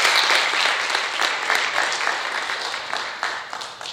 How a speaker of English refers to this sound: So once again, let's give all the dads a round of applause today.